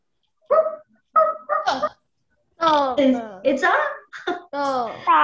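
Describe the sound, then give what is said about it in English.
A dog barks and yelps in a quick series of sharp calls: a few short barks first, then longer, whining, bark-like cries after a brief pause. “It's a dog.”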